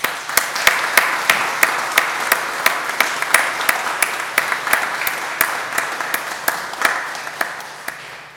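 A church audience applauds its Sunday school pupils steadily for about eight seconds, a dense wash of many hands with sharper individual claps popping out at a fairly regular beat, no voices.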